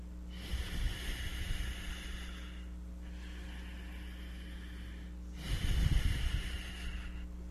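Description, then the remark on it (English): Two long, forceful breaths rush loudly, separated by a brief pause, over a steady low hum, with no talking, as a breathing exercise is demonstrated. “So this breathing, in the beginning you have to remember it.”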